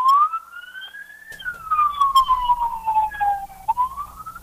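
An ambulance siren wails outside, its pitch sliding slowly up and down in a long sweep, loud and steady over a low rumble of passing traffic.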